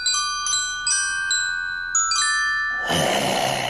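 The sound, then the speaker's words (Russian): Small bells tied to spider-web threads, pulled one after another by a spider, ring out a short melody, several bright tinkling notes with lingering overtones, ending in a wash of shimmering noise near the close. “Паук дергал паутинки с колокольчиками по очереди, и получалась музыка.”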